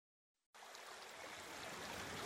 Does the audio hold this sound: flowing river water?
yes